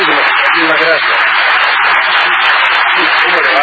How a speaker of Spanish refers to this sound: El público ha empezado a aplaudir después de oír que algunos, el aplauso de la frase. No, que algunos mitos aplaudieron, el hecho de que algunos mitos clásicos quedaron al descubierto con el viaje de Colón.